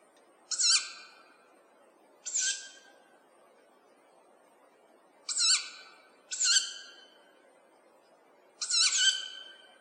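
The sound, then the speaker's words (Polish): Young tawny owl chicks give five harsh, wheezy screeching calls at irregular intervals, each lasting under a second, standing out clearly against a faint background hiss. “Zupełnie inaczej odzywają się młode puszczyki, które głosem przypominają nieco dorosłe panie puszczykowe.”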